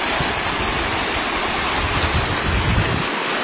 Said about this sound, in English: See, the creek is running in two streams here.